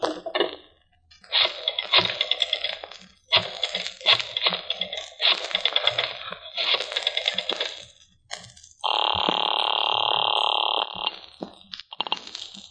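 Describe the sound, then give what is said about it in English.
Several bursts of rapid, clattering clicks like a rotary phone on a desk being dialed, followed by a steady, buzzing telephone ring lasting about two seconds, fairly loud, with no talking. “Oh, if you want to use a phone, you may use mine right there on the desk.”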